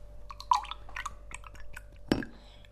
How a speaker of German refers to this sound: Ich trinke Kiba, Kirschbananensaft. Ich schütte erst ein bisschen Bananensaft in das Glas und dann schütte ich Kirschsaft dazu.